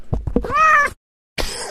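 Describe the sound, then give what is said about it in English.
A played sound clip of a pet cat meowing loudly in a long, drawn-out cry after a few short chirps, then a pause of silence before another brief meow begins. “I have to use the sound clip because when I pick her up, she doesn't say shit.”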